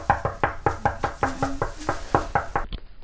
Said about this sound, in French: Et elle toque à la porte.